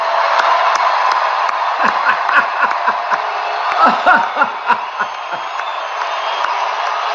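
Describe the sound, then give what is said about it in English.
A large crowd claps steadily and loudly for Ted Cruz for several seconds, with scattered cheers and short whoops rising out of the dense wash of applause. “He's clapping for Ted Cruz.”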